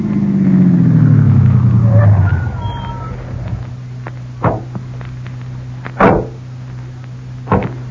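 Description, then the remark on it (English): A car engine rumbles and winds down to a steady idle, then three sharp car-door clunks follow at intervals as people get out of the car at a spot overlooking a big lake. No voices. “They're getting out of the car now,”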